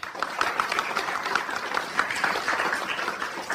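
A small audience in the large studio of Czech Radio Plzeň, at the Plzeň Region award ceremony for the ď prize for supporting culture and charity, applauds steadily for a few seconds, a dense patter of many hands clapping at a moderate, even level with no voices over it.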